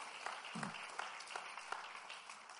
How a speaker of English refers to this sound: You can clap if you make me feel better if you clap. Pueden aplaudir al Señor si quieren. Me hace sentir mejor.